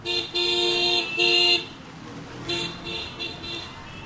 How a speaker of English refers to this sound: But anywhere near the edges of the slums and on across huge swathes of Delhi, honking dominates the soundscape.